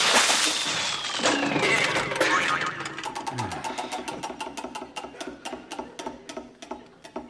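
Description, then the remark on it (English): A prize wheel whirs loudly at high speed, then breaks into a rapid run of ratcheting clicks that gradually slow and spread apart as it winds down. “Not supposed to go that fast. Look, you can't see the categories for smoke.”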